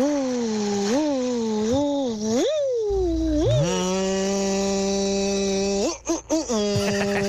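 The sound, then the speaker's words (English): A person vocally imitates a vacuum cleaner, opening with wavering rising-and-falling whines, then settling into a loud, steady droning hum that briefly cuts out near the end before resuming. “So I asked you for vacuum cleaners and you did not disappoint.”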